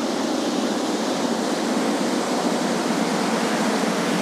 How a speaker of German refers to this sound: Wir wissen immerhin, hier auf der Seite ist das Wasser. Und das gerade, das tönt so. Das könnte vielleicht sogar eine kleine Anlage sein. Eine Kläranlage, das tönt nach Wasser.